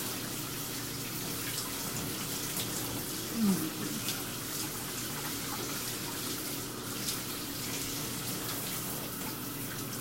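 running shower water

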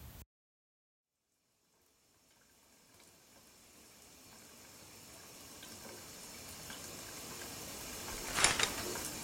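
shower water running

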